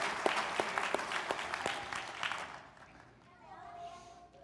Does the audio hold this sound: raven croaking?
no